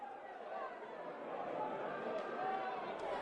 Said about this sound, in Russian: Шум приближающейся толпы.